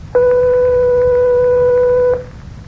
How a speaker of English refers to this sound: The note that was played was 1/8 of an octave above B natural.